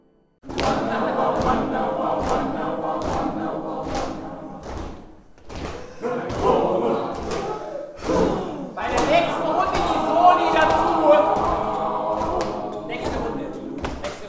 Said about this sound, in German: Laut stampfen ihre Füße. In gebückter Haltung schreiten sie im Kreis. Dazu schmettern die 15 Schülerinnen und Schüler der Elisabeth-von-Tadden-Schule Urlaute, wie bei einem archaischen Indianerritual.